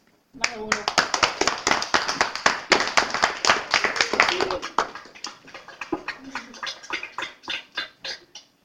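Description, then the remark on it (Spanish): A small group in Policastro, Greece bursts into steady, loud applause, individual claps clearly audible. It stays strong for several seconds, then thins into slower, scattered claps before stopping, with brief voices underneath. “Y os damos un aplauso muy fuerte desde aquí.”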